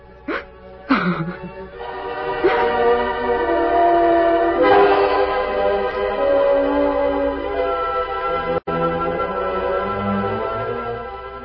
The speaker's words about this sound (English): Two days later, on a hard-packed trail east of Elk City, the Lone Ranger and Tonto pulled their horses to a halt near a railroad right-of-way. Oh, hold on. We'll wait here in this ravine till the train goes by, Tonto. Iron horse pull plenty car.